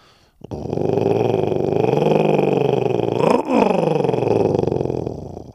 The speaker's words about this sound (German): Als Merlin sich gerade verabschieden will und sich zum Weggehen umdreht, ertönt plötzlich ein gruseliges Knurren.